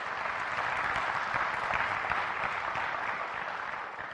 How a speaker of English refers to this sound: So shall we end this session with a minute of meditation? Yes, now you can clap. Go ahead.